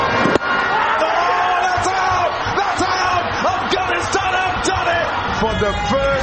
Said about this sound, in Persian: صبح روز سه شنبه این بازی در نقاط مختلف افغانستان با شادی و هیجان دنبال شد و افغانها این پیروزی را در ننگرهار، خوست و در برخی مناطق پشاور با آمدن در جاده ها جشن گرفتند.